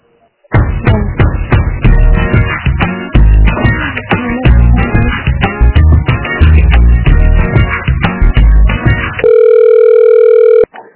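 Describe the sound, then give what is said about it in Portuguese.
A loud, rapid run of electronic telephone tones plays for several seconds while a phone call is being transferred, then gives way to a steady, unbroken line tone that cuts off abruptly. No one speaks. “Desligou o telefone. Eu vou transferir, só um momento.”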